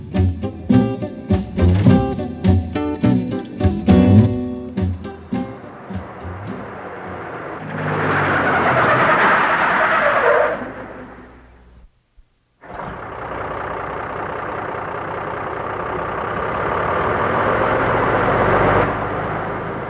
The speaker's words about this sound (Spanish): Creo que ya regresó mi tío. Acabo de oír el camión.